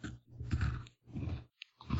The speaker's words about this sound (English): Oh boy. It's a Twix PB, too. Listen to that cookie crunch.